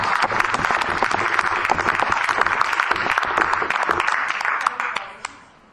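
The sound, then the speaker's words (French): A crowd at a municipal council meeting of the commune of Diolfi applauds a commune employee of 41 years at her last council, a dense wash of many hands clapping at once, holding strong for about five seconds before thinning to a few last claps and fading out. “Donc voilà, je vais qu'on l'applaudisse.”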